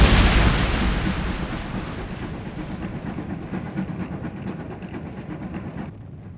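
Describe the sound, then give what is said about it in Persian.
A heavy train rumbles and rattles with a steady rhythmic clatter of wheels, loud at first and gradually receding as it moves off again after stopping for a flock of sheep. No one speaks. “هی نگاه کن، قطار بدون ما حرکت دادن.”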